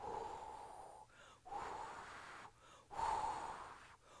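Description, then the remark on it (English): Deep, audible breaths, three long airy inhales and exhales in a steady rhythm with brief pauses between, loud and breathy with no talking. “If you need resurrection life in your body, mind, soul, or spirit, I'm going to have you breathe in.”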